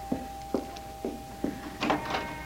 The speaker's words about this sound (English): What's that? That's just the front door bell